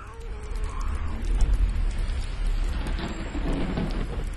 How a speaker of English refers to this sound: The grocer and I, we look outside to a cascading rain. Water gushes down in a river toward the Bosphorus.